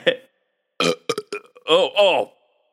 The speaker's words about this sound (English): Ow. Ow. I burped and it hurt.